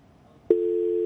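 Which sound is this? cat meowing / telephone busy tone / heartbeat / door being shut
telephone busy tone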